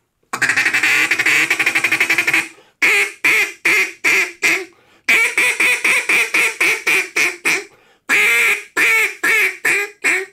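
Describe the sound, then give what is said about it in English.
A duck call blown by a champion duck caller and call maker from Clarendon, Arkansas, giving a duck's mating call: a long raspy drawn-out blast, then loud, rapid runs of harsh quacks in three bursts with brief pauses between them. No one talks. “But I like raspy or duck call.”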